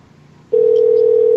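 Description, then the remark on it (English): A phone ringback tone on an outgoing call: after a quiet half-second, a steady, loud electronic hum starts and holds unbroken to the end, with no one talking. “How is he not going to answer?”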